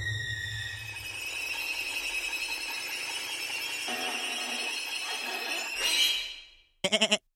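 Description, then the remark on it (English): A goat lets out a long, loud, strained bleat that holds for several seconds before fading, then a brief stuttering bleat follows after a short pause. “You've manifested your soul into a goat!”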